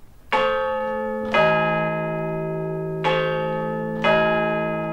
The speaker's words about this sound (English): And usually at this time we bring you the chimes of Big Ben, but as you probably know, it's out of action. So instead, here are the chimes of Big Tom from St. Paul's Cathedral.